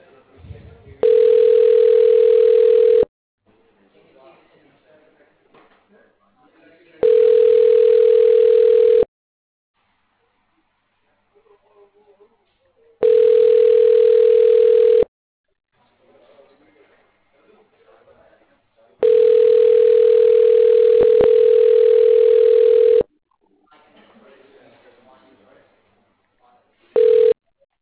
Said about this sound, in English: Your call is now being connected. You will hear ringing while your call connects.